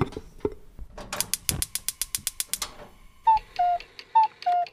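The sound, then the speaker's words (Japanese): A rice cooker lid clunks shut over washed rice, daikon radish, pork, salt and water for daikon rice, then a quick run of sharp mechanical clicks as buttons are pressed to start cooking, followed by a short melody of four bright electronic beeps in a falling-rising pattern. “炊飯器に研いだお米、大根、豚肉、お塩、お水を入れて蓋をしてそのまま炊飯します。”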